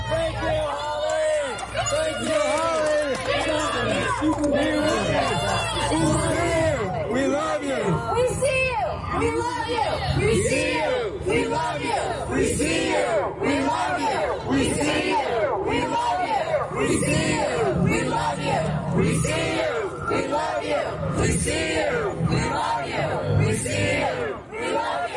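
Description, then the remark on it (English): A large crowd at a protest cheers and shouts as a lockdown activist is handcuffed and led away by police, many voices overlapping in a loud, continuous roar of whoops and calls that stays steady from start to finish. “Now, at last she was set free, one might say, and then handcuffed and led away to the cheers of the crowd.”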